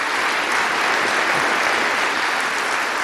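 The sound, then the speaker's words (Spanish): A crowd applauds steadily for Aldo Díaz Lacayo, a dense, continuous wash of many hands clapping at even loudness throughout, with no voices standing out. “En este día quiero saludar en nombre de nuestro pueblo al hermano Aldo Díaz Lacayo, para el cual pido pues un aplauso para Aldo.”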